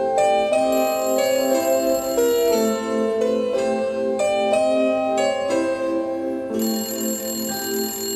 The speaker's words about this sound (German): Das Telefon klingelt. 10, 20, 50 Mal.